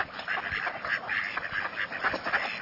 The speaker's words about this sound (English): And watch to see which duck is quacking. That's the female mallard.